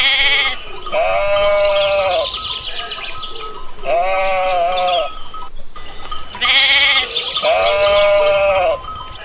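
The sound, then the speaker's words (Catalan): Goats bleat loudly in a shepherd's older milking herd, several wavering calls overlapping in repeated bursts roughly every two seconds, continuous, with a faint clank of bells in the background; the herd's main corral is near Forja on the Marina drove road. “El jefe del pastor són les cabres, ja que és un ramat vellet i cal estar pendent de munyir-les, dels cabrits i de totes les seves necessitats.”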